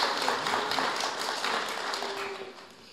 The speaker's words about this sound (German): Einen großen Applaus an alle Beteiligten.